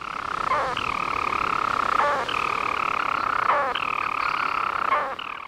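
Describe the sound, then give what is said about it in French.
A storm petrel, a small seabird weighing only about 29 grams, sings: a long, steady, buzzing purr that churns on without pause, broken about every second and a half by a quick hiccuping note, with no voices. “Voici un extrait de son chant.”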